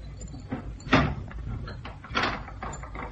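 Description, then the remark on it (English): A door is pushed shut with a solid thump, then a second clunk follows a moment later as it is locked from the inside, set against a low room hum with no one speaking. “I'll lock the door again, will you, Cannon? You'll lock it from the inside?”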